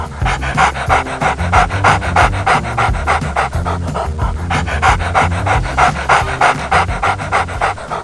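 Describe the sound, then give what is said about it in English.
A dog pants rapidly and steadily as it runs away, each quick breath loud, with a driving rhythm like it's running hard. No voices, just continuous heavy panting for several seconds. “Greedy dog grabbed the bone. Hey! Then he ran away.”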